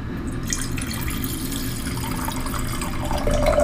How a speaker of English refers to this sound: play soothing wine pouring sounds. Got it. Wine pouring ASMR.